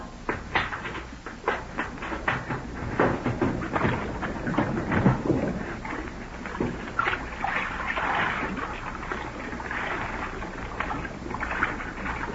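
A person slips out into the water beside an island, with a run of irregular splashes and sloshing that swell to a busy churn midway, then settle into softer lapping. No one speaks.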